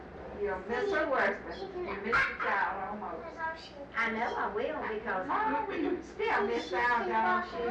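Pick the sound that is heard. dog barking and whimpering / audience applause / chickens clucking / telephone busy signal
dog barking and whimpering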